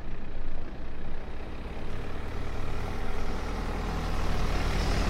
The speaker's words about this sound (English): a silver car slowly approaches from the other direction.